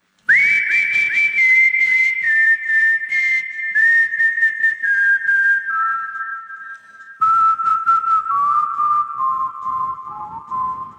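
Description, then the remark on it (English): A clear whistled melody of long, sliding notes that gradually step downward, carried over a steady rhythmic musical backing in a pop song, with a brief pause partway through. “Whistling seemed like a good way of like presenting a melody without making it either that way or the other way, you know.”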